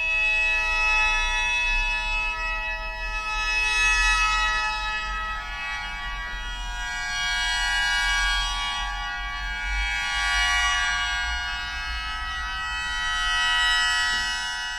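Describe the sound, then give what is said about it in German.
A shō mouth organ, an instrument with 17 pipes blown by mouth and barely half a metre tall, sustains a shimmering, reedy chord of many steady high tones filling a Jesuit church, swelling and fading gently in slow waves without pause. No one speaks. “Es hat 17 Pfeifen und wird mit dem Mund blasen. Darum nennt man das Shō auch Mundorgel.”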